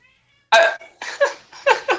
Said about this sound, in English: The cat is meowing and opening the door.